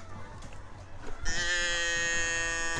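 animal, sheep bleating

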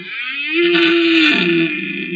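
animal, red deer stag roaring

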